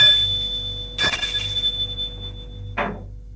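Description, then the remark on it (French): A doorbell rings with a bright, sustained high tone, marked by a harsh buzzing burst early on and a shorter one near the end, over a low steady hum. “Attends et sonne.”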